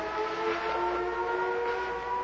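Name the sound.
civil defense siren wailing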